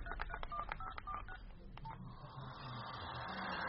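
telephone keypad dialing tones

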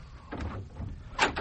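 door opening

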